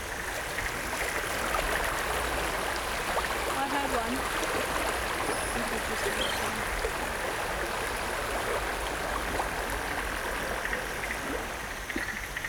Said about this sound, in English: What? Is that the water? Yeah, it's the water underneath.